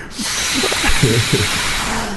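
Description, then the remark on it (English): A person imitates a fart with their mouth, a breathy, hissing blow lasting about two seconds, with a brief wavering, sputtering low buzz in the middle. “Why do you know so many fart noises?”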